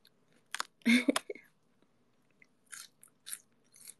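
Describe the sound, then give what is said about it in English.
Crisp, crunchy chewing of raw lettuce eaten straight from a whole head: a loud wet crunch of a bite, then a few softer, spaced chomps with quiet pauses between them. “But this is the first time since being a kid that I've eaten it from the head.”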